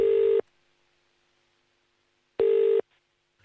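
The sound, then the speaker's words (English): A radio presenter places a phone call: two steady electronic tone bursts, each under half a second, separated by a two-second silence, with no voices. “So we've got their phone number here. We've sorted out a couple of surprises for them, so let's give them a call.”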